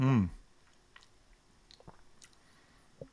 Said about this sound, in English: So … is giving it a little sip.